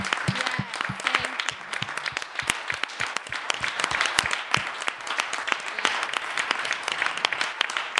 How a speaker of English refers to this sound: So if you are a veteran and you are in the house this morning, would you please stand so that we can show gratitude by applause for your service to our country?